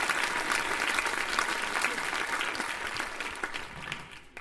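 A crowd gives a round of applause, a dense, steady patter of many hands clapping at once, holding strong for several seconds before starting to thin out at the end.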